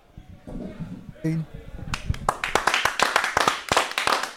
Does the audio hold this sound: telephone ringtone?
no